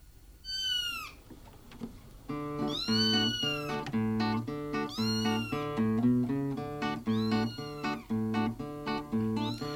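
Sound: cats meowing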